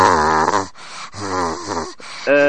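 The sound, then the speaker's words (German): A voice imitates the raspy, coughing men heard on the mother's telephone: three strained, gravelly vocal bursts, each under a second, with brief pauses between, loud and throaty with a groaning tone. “Und da sind dann immer Männer dran, die haben Husten und so. Ganz kratzig.”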